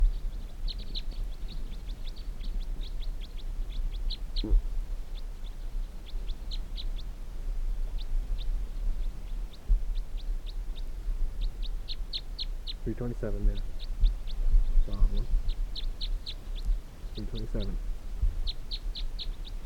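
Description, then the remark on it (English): Birds caught in a mist net, fifteen of them, call continuously with high, thin chirps in quick bursts, layered over a steady low rumble, while a few brief murmuring voices surface near the end. “There continue to be 15 birds in the net.”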